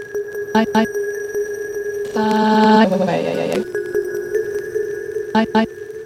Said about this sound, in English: First, it's the simplest sound of all, which is a sine wave. Sine wave.